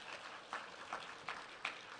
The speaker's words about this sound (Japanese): はい、1年生のお友達よくできましたね。本当にもう一度拍手します。ありがとうございます。